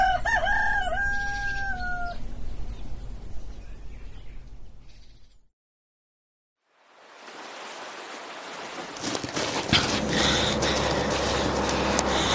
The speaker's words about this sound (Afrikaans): Partymal dink ek, daai haan probeer iets vir my sê.